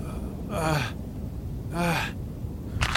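Labored, gasping breaths of a dying slave, two strained rasping inhales about a second apart with a third starting at the end, fairly loud over a low background rumble.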